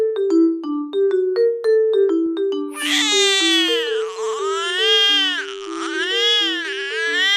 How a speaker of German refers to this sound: Und tatsächlich schreien auch die Babys aus Kamerun in einem variantenreichen, auf- und absteigenden Singsang.